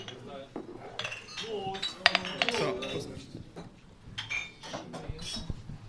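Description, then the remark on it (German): Several glasses clink together in quick succession during a toast at a regulars' table gathering, bright, with a few scattered chimes and background murmuring of people talking around a table. “Dann erstmal Prost auf diesen Stammtisch. Prost zusammen.”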